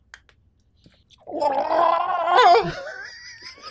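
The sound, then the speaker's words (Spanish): A voice gargles water in a loud, bubbling, warbling tone that wavers in pitch, swells to a strained peak, then trails off, imitating a muffled scream. “Hacía gárgaras. Y entre comillas gritaba.”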